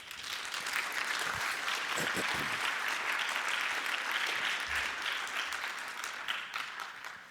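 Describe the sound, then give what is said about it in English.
Sustained applause from a large audience at the Chaos Computer Conference, welcoming a speaker before his talk: a dense steady patter of many hands clapping at an even loudness for several seconds before starting to thin slightly at the end. “Please have a warm applause for him.”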